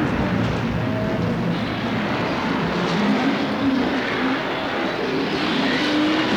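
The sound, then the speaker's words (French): A heavy truck stuck in mud labors in torrential rain as men try to push it. Its engine makes a loud, rough, continuous roar whose pitch rises and wavers as it strains, with no voices. “Jusqu'à l'os, ils tentent de pousser le camion embourbé.”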